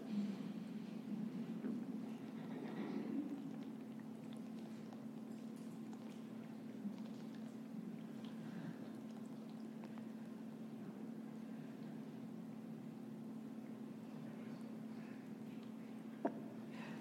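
Water pours steadily for several seconds, a soft, continuous splashing stream over a low background hum, fairly quiet and with no talking.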